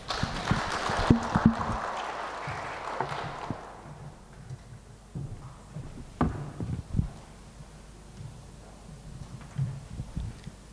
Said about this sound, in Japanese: では歓迎の意味を込めて拍手でお迎えいたしましょう。